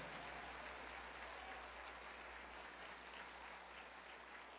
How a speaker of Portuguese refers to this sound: Pode aplaudir Jesus.